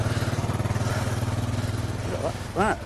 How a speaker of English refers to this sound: found a lawnmower engine. Compared to the microlite engine, it's a nipper